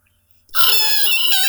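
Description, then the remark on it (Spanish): A voice imitates a taxi's screeching tires with a sudden, loud, high-pitched squeal that starts after a brief silence and holds steady for about a second, sounding strained. “O sea, el inicio sería como que un taxi así, obviamente, chillando para darle como temática relacionada con el, con el título.”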